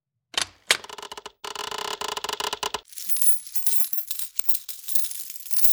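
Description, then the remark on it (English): Gold coins clink and jingle together in an opened big wooden chest, a few sharp impacts followed by a busy run of rattling, then a softer, brighter shimmer of coins shifting and settling, with no voices. “Steve opened the chest and smiled. It was full of gold coins.”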